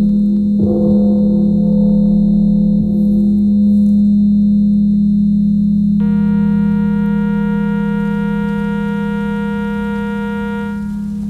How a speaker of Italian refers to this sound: Ecco la campana.